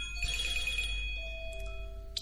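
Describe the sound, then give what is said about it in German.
A mobile phone ringtone chimes in a quick run of bright, evenly spaced electronic notes, fairly faint over a low background hum, followed by a few softer sustained tones; the phone had not been switched to silent. “Das ist natürlich, Entschuldigung, jetzt ein Handy gewesen, wie ich vergessen es auf stumm zu schalten.”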